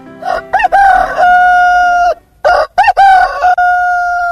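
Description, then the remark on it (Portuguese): A rooster crows twice in a row at almost 5:30 while the sun still shines, each call loud, rising sharply and then holding a long drawn-out note before cutting off, with a short gap between them. “Como é que um galo tinha se posto a cantar assim naquela hora a sua cantiga de seduzir galinha?”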